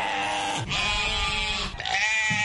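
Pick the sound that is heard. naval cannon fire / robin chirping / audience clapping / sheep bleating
sheep bleating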